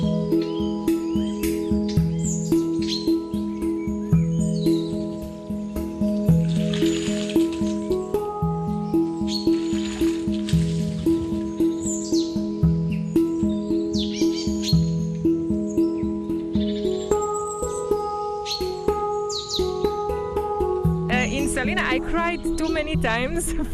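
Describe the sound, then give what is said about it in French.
Birds chirp and tweet repeatedly in short bursts in a salt-pan wetland, a biosphere reserve on the Adriatic, mixed over a steady, droning tonal background that runs throughout, with no voices. “Et il y a urgence pour cette importante réserve de biosphère de l'Adriatique, surnommée le Heathrow des oiseaux.”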